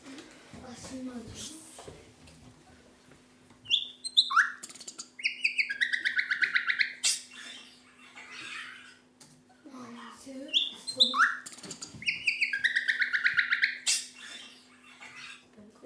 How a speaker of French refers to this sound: Le rossignol du jour. Vous êtes prêts ?